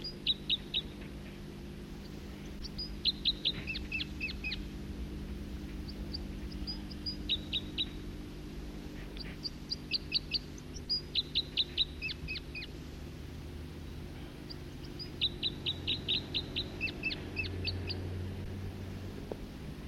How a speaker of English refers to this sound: Other birds coming in now, song flight of a second bird. Two separate songsters and adjacent perches in different trees. Second bird.